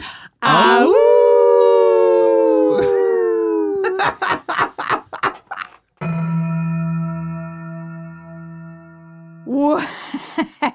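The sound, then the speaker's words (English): A long, wavering wolf-like howl rises and slides down, followed by choppy yelping bursts and a steady droning tone, then a short final burst of howling. People are imitating wolves, loudly, as a farewell sign-off. “We would be honored if you would howl out.”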